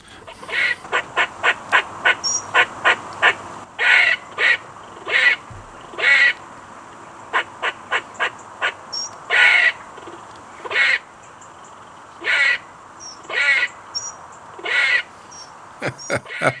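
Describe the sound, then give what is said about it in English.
A grey squirrel on a farm gives its alarm call, warning other squirrels of danger: bursts of rapid, harsh chucking notes alternating with longer raspy, buzzing barks, repeated insistently and loudly for about sixteen seconds with no talking. “And that's their kind of alarm call, and they will squash themselves flat against a tree and say, you can't see me, can't see me, but at the same time making that noise to warn other squirrels that there's danger around.”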